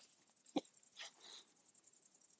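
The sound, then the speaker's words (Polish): One short, sharp hiccup, then a soft breathy exhale, both fairly quiet against a steady, high-pitched trill of crickets chirping throughout. “To jest czkawka świetna.”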